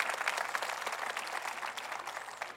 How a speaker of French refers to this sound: Allez, pouvez-vous l'applaudir avec moi?